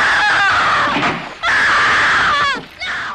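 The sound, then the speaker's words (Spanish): A woman screams hysterically and loudly in long shrill wails broken by brief catches of breath, the frantic cries running almost nonstop for a few seconds. “Lo hemos bajado ya porque ahora se pone a gritar cual poseída”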